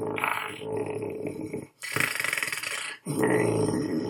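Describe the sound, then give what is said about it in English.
A person imitates a growl with their voice: three loud, rough, raspy bursts separated by two short breaths, low and gravelly with a hissing edge. “Growling. Get the growl in there somewhere.”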